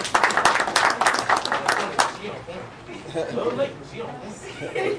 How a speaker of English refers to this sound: I begin my statement. I want to say, can we please give my counterpart a round of applause?